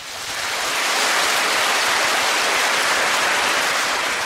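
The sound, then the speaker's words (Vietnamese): A crowd applauds steadily, a dense wash of many hands clapping that swells in at the start and holds at a loud, even level throughout, with no voices. “Cảm ơn tràng pháo tay của các bạn.”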